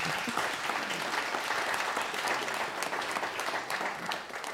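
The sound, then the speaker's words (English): An audience claps steadily for several seconds after the announcement that a collection will be returned to the Arapaho people on October 14th, a dense, even patter of many hands at a fairly constant loudness, with no voices rising above it. “You can clap.”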